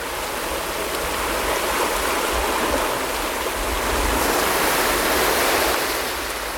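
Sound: ocean waves rushing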